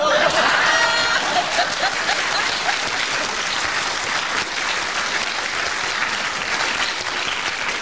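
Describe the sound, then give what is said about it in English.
A crowd applauds steadily, a dense, loud wash of many hands clapping that holds for about eight seconds, with a brief voice audible under it at the start. “The idea that you should applaud her.”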